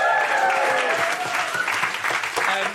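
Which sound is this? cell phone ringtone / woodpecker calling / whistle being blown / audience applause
audience applause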